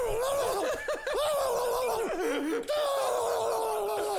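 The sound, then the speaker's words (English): A voice imitates the loud, rapid, persistent high screech with which Louise Picton talked: a shrill, high-pitched, loud screech, holding an unbroken wavering squeal for several seconds with quick pitch wobbles and bends. “And when Louise Picton did talk, she did so loudly and rapidly in what was described by many as a persistent high screech.”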